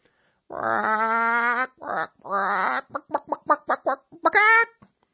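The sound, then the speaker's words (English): A human voice imitates a chicken: a couple of drawn-out squawking calls, then a quick series of short, choppy clucks ending in a final squawk, loud with no other sounds. “Net Chicken, in parting, allow me to say a few words in your native tongue.”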